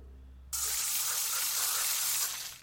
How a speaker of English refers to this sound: Well, I do shoot a mean sarsaparilla from the soda gun. Well, there you go, yeah. Let's do a practice. Don't hesitate, just pull up your nozzle and spray.